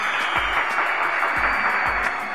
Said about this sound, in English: Speaking of applause, let's give Kino Trice a round of it.